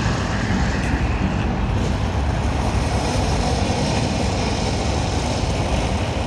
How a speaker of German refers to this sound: Alle 15 Minuten bricht der Vesuv aus.